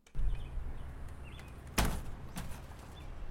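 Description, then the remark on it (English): The screen door of a vacant house on Windcrest Drive in Davis County swings and claps sharply once, followed by a softer knock, over a low steady rumble of wind outdoors on a windy but sunny day, with faint birds chirping. “The screen door of a now vacant house swings open on a windy but sunny day on Windcrest Drive in Davis County.”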